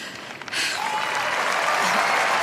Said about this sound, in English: Thank you, guys. Thank you very much for cheering for me.